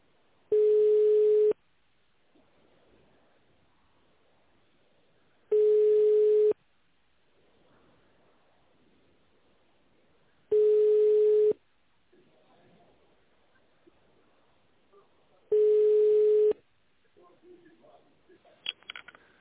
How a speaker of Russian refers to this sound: Если вы знаете внутренний номер сотрудника, наберите его в тональном режиме или дождитесь гудка.